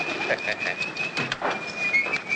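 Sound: dove cooing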